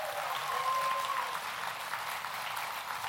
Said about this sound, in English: So could we just give him a huge round of applause and say, yes, Aiden, 100%.